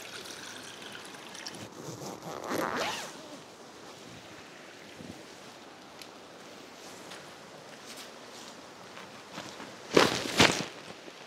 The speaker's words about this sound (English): So the first thing I'm gonna do is get my tent down. I'm gonna take my tent down quickly, and whilst I'm taking my tent down, I'll boil myself some water, then I'll have a hot chocolate by the stream.